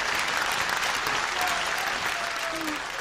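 Steady applause from an audience for a guest back from a competition, dense rapid clapping that holds at an even, loud level throughout with no pauses, no voices standing out above it.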